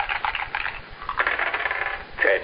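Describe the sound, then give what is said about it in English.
Dice are thrown in a game of craps, clattering and rolling across a hard surface in a few bright, rattling bursts, ending with a sharper tumble. No voices are heard. “Try and throw another. A 4 and a 5 or a 6 and a 3.”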